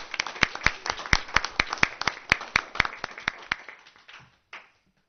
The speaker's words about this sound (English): So let's give them another round of applause as they leave.